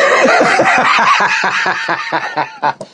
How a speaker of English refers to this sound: I'm sorry to burst in the scene here with the smoker's cough, but it just struck me as quite funny.